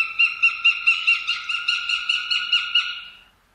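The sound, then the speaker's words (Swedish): A northern goshawk gives a rapid, even series of about a dozen harsh, nasal calls, loud, trailing off at the end with no other sounds. “Och så duvhök.”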